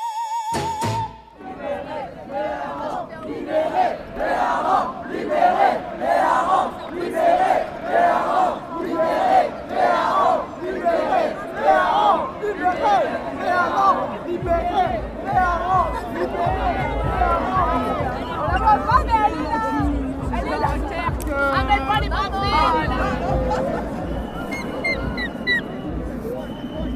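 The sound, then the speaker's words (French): A dense outdoor crowd of carnival-goers packed into the square near the town hall in Dunkirk, France, awaiting the herring throw, roars and chants with loud, overlapping voices, rising in rhythmic surges, while a low rumble joins partway through and the din continues throughout. “Une foule serrée de carnavaleux est rassemblée sur la place, prête pour le fameux lancer du hareng et pour la bousculade.”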